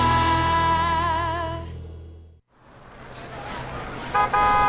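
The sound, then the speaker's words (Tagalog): A jeepney horn blares a long, warbling musical honk, then cuts off; street traffic rumbles afterward before a second short honk near the end. “Tara na, yun na yung jeep.”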